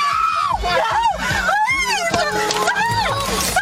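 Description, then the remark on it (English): A 26-year-old woman screams over and over in loud, high-pitched, wavering bursts as a masked man smashes her car's passenger-side window at a stoplight in Vallejo, California, with happy music running steadily underneath throughout. “Her screams are chilling.”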